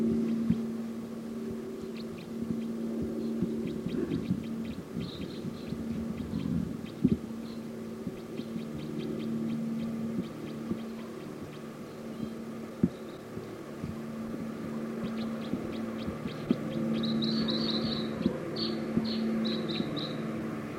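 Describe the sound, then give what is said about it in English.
High, thin calls of decoy birds chirp in short repeated bursts over a steady low hum, growing busier and louder toward the end, with scattered clicks and no voices. “Decoys calling loud now.”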